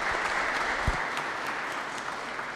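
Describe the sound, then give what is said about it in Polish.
Steady applause from an audience at a parish gathering, welcoming a guest: many hands clapping in a dense, continuous wash that holds at an even level throughout, with no voices standing out. “Wielkie brawa.”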